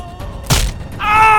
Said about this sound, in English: Good sir, if you could stop screaming from your arm being twisted and broken for just a moment, please look at this!